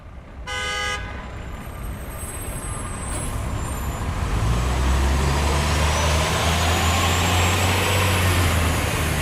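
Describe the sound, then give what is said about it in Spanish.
A car drives along a road on the one-hour trip from the city of Zaragoza to the municipality of Nombrevilla in Zaragoza province, with a steady roar of engine and tyre noise that grows louder, a low engine drone settling in, after a brief horn toot at the start. “Una hora en coche me separa de Nombrevilla.”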